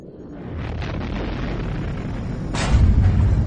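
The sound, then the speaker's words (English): Blaster fire from pursuing ships pounds against a fleeing starship's shields, heard as deep, muffled booms over a constant low rumble, with a louder, sharper impact hitting near the end. No voices. “The Falcon thumped with the sounds of blaster fire hitting her shields.”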